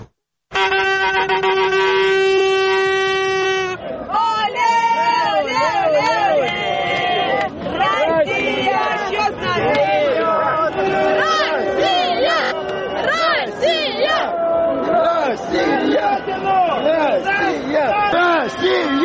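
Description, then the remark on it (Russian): A loud crowd of Russian football fans celebrating the Russian national team's game of the day before, with a blaring horn at the start followed by dense shouting, whooping and rhythmic chanting of "Russia!" throughout. “Потому что я хочу, чтобы наши режиссеры показали нам кадры, как реагируют на вчерашнюю игру, блестящую игру российской сборной, российские болельщики.”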